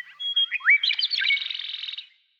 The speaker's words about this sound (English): The key to this extraordinary range of sounds lies in the bird's physical anatomy.